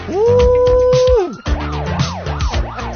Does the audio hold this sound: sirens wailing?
yes